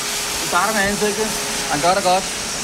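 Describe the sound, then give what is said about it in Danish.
A spray tan gun hisses out a steady, continuous mist of air for the whole stretch as a person is spray-tanned, starting with the face, while a voice briefly sounds over it twice. “han er fuld i gang med, med spraytankkanonen.”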